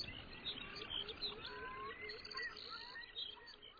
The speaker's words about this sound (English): trying to chase off other males and attract a female. It's a really incredible thing to see this bird floating towards you, uttering this loud, resonant hooting sound.